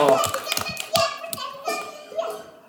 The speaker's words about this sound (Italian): Oh, un applauso!